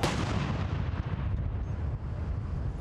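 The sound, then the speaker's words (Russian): Heavy, booming cannon fire from a ceremonial 41-round gun salute fired by six World War I-era field guns in Green Park at 10-second intervals, its deep blasts and echoes merging into a continuous rolling rumble with no voices. “Зрелищный салют – это лишь часть церемонии.”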